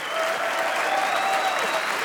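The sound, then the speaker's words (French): Steady, dense applause from a concert audience for a trumpet player from Cologne, Germany, a continuous crackle of many hands clapping at even loudness throughout, with no voices standing out. “Merci, veuillez applaudir très fort cette formidable trompettiste que j'ai découvert il y a peu, qui nous vient de Cologne et d'Allemagne, Heidi Bayer.”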